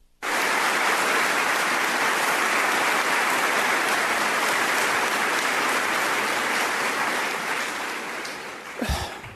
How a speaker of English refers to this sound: Oh, my, and they're cheering.